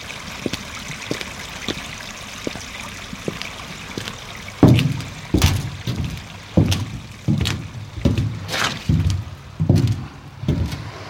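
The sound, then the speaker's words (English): Water trickles and splashes steadily from a broken water pipe, with a rhythmic series of louder sloshing bursts joining in partway through, fairly loud, with no voices. “The edge has been eaten away by the broken water pipe.”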